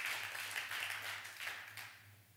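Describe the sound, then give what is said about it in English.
A crowd claps together in a dense, fairly soft patter that holds steady for a couple of seconds, then thins out and fades. A low hum runs underneath, and no one speaks. “If you've ever done that, I want you to clap right now.”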